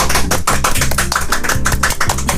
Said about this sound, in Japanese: あの、拍手でね出迎えられておりますが